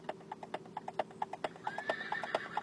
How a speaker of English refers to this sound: See, that's what I was thinking of, is this little fake horse thing here at the beginning of this.